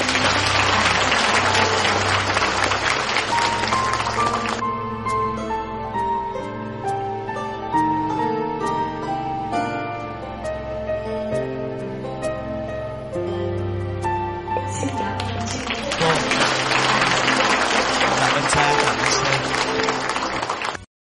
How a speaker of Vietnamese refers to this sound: Quý cộng đoàn chúng ta cũng dành cho một tràng vỗ tay nữa ạ.